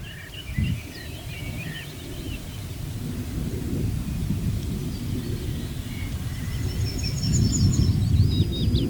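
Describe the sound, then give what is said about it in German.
Gusty wind whips over open ground and blows into tall pine crowns in a steady low roar, swelling louder toward the end, while a few high bird chirps and tweets flicker faintly above it. “Ja, dann hören wir auch noch natürlich den Wind, ja, der hier über die offene Fläche rüber peitscht, würde ich nicht sagen, weht in die Kiefernkronen rein, die jetzt hoch sind.”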